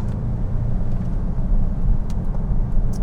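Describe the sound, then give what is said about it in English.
A car engine roars with a steady, heavy low rumble for the whole stretch, with a few brief faint hissy bursts on top and no voices, as the car does a power slide in a tight little space. “This is such a tight little space in here to do a power slide”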